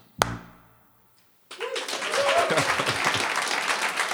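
A single musical note rings and fades, then after a brief pause an audience breaks into dense, sustained applause with a few cheers, steady, at the end of a live music session performance.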